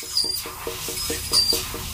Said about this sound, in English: One of the worst sounds on earth, the dentist drill.